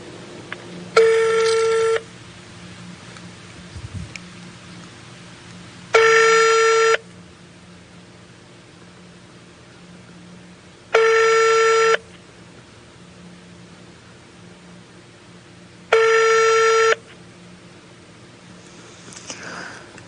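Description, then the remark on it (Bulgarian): An outgoing phone call to politician Mr. Simeonov, placed live on air, rings four times at steady intervals of about five seconds. Each ring is a bright, buzzing tone lasting a second, with quiet line hiss between, and no one picks up. “Ето сега в момента съм с телефон в ръка. Звъня му, да видим дали ще се включи.”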